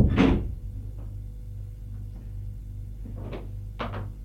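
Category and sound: household object, door closing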